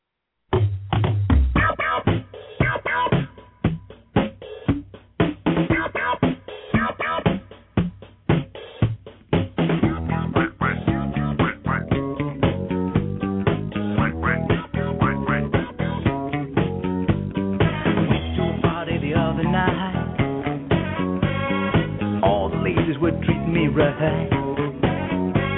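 A 1970s disco novelty song plays loudly, opening with sparse punchy hits before the full band kicks in with a steady, driving dance beat; the sound is slightly muffled, like radio.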